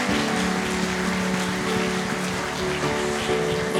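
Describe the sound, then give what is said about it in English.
A church audience gives a hand clap of praise to God, dense, steady applause that holds at an even level throughout, with a few sustained low musical tones humming underneath. “Let's give him another hand clap of praise today.”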